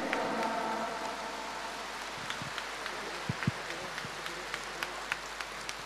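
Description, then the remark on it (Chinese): An audience claps steadily in a dense, even wash of applause to thank Lu Junhong for his Buddhist talk, with a few sharper individual claps standing out toward the end. “让我们再次以热烈的掌声感恩卢军宏台长的精彩开示。”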